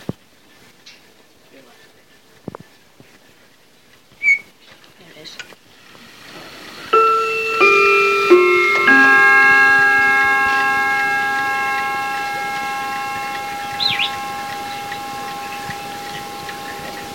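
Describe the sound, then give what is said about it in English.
A mantel clock ticks faintly and sparsely, then chimes the quarter hour: a short run of four bright bell notes, their tones overlapping and slowly fading out. “Any second it should chime the quarter hour, and it's because I'm waiting for it, it's taking a long time.”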